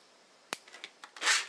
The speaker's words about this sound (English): Oops, knocking over the tea.